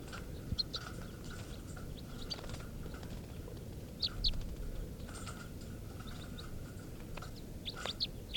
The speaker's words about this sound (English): These are test recordings of birds 436, the type 3 male, and 437, the type 4 male.